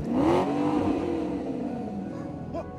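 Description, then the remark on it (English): A sports car engine revs hard at the start, its pitch climbing and then easing into a steady, loud drone as the car pulls away, with no voices; a carer is taking a quadriplegic man for a drive in it. “When the carer discovers a sports car owned by the quadriplegic that he cares for, he takes him for a drive in it.”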